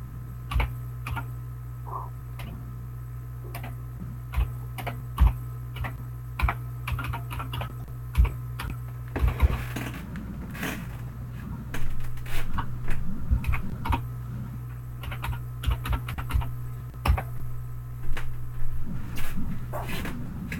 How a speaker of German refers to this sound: Warte mal so ein bisschen auf das Bing bei deiner Schreibmaschine.